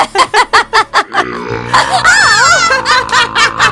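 A long, loud, croaking beer burp rumbles on for about two seconds, right after a quick run of rhythmic, pulsing laughter.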